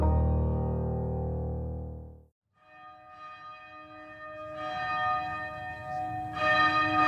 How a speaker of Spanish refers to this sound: Las campanadas de la iglesia la despiertan.